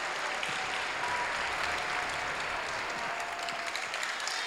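Steady applause from a crowd after a performance, a dense wash of many hands clapping that holds at an even, moderate loudness from start to finish, with no voices standing out.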